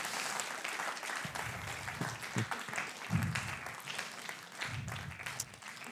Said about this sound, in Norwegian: Dere må gi en applaus til de der, de flotte typerne.